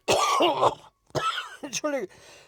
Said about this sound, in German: Entschuldige. Ich hab plötzlich einen Husten.